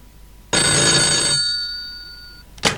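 A telephone bell rings once, loud, a bright metallic jangle whose tone lingers and fades over about two seconds, followed by a brief clack. No one speaks.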